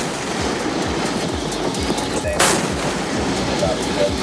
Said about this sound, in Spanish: Son los cañonazos de la Armada estadounidense. Un destructor norteamericano advierte y acaba disparando, como escucha, sus cañones contra un buque iraní cerca del estrecho de Hormuz.